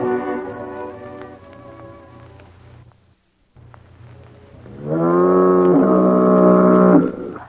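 A deep, droning foghorn sounds twice: a moderate, wavering blast, a brief silence, then a louder, steady blast that holds for a couple of seconds before cutting off.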